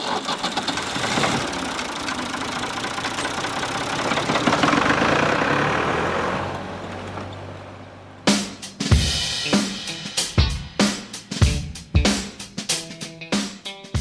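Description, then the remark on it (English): A tractor engine roars under heavy strain as it pulls a large sled that grows ever heavier, swelling louder for several seconds before fading away, then gives way to a run of sharp, rhythmic thumping beats. “En traktor. Så kopplar, backar in till den här stora släden som du har tittat där inne på.”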